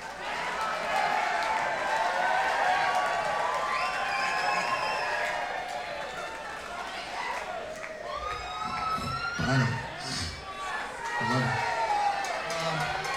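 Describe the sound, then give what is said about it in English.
A large audience yells and cheers continuously, a dense wash of overlapping voices with a few louder shouts rising out of the din near the end. “everybody just kind of yelling from the audience, jam with … tomorrow night”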